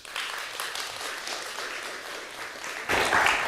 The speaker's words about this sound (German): nochmal Applaus